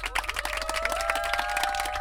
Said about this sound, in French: Écoutez, je pense qu'il est temps de faire un tonnerre d'applaudissements pour votre équipe d'animation.